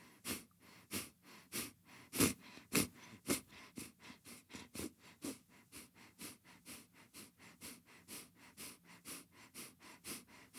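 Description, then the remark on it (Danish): Rapid, rhythmic breaths pushed through the nostrils in a breathing exercise of 20 repetitions using the abdominal muscles, a steady series of short, forceful sniff-like exhales repeating roughly every half second, fairly loud with no talking. “Send opmærksomheden til næseborene, og du tager en dyb indånding, en lang udånding, inden du starter ud.”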